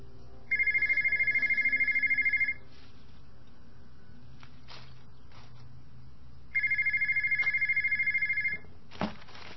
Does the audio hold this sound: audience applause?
no